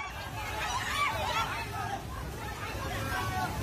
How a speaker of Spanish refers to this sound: Este es el sonido del terror de la gente ante el torrente que ha arrasado en muy poco tiempo viviendas, coches, árboles y que ha dañado infraestructuras de todo tipo, carreteras, puentes, centrales hidroeléctricas